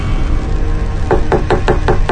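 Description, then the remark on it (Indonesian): Six sharp knocks on a bedroom door in the middle of the night, in a quick, steady rhythm, starting after a moment of low background rumble, clear with no voices. “Ketukan itu masih terdengar.”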